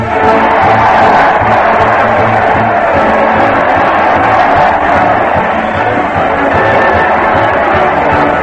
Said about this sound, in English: Listen to that crowd. They're cheering Fred Allen as he leads his weekly parade to the old Town Hall. Fred's laughing, the band's playing, the Mighty Allen Art players are doing hip-hop. Let's join the merry throng. Everybody's going.